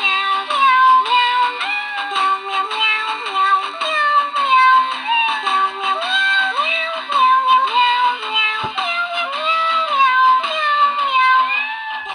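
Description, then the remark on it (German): A musical birthday greeting card is switched on and plays a tinny, electronic birthday serenade made of meowing cat sounds, a continuous melody of stepped pitched meows with bright harmonics, steady and fairly loud for about twelve seconds. “Das ist nämlich eine klingende Geburtstagskarte und ich mache die jetzt mal an, damit ihr auch was davon habt.”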